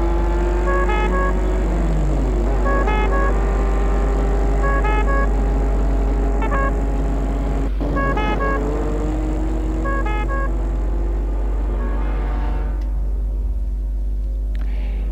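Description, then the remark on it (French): Cars and an ambulance roll in with a heavy engine rumble and a steady, pulsing two-tone horn, then slow and stop in front of the entrance of a château near the end. Nobody speaks. “Les voitures et l'ambulance s'arrêtent devant l'entrée du château.”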